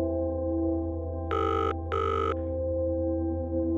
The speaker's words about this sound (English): Come on, come on, come on, she said as the ringing tone buzzed in her ear.